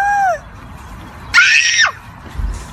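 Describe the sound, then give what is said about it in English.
Children let out a loud, shrill burst of screaming lasting about half a second, after a brief high, falling cry at the start, with quieter rumbling noise around it, as the costumed Easter Bunny comes into the yard to greet them. “Here's the children being greeted by the Easter Bunny as he comes into the yard.”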